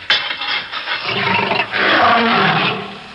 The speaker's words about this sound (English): The lion is loose.